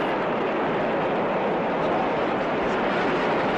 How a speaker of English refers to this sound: Apparently an express train does not stop.